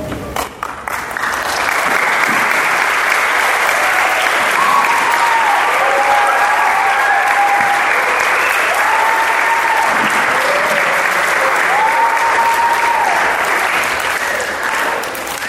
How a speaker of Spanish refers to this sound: Gracias por el aplauso.